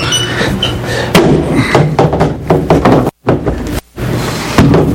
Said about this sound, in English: Let me open this door.